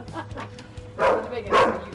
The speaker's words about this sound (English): Here we go. This dog doesn't attack me.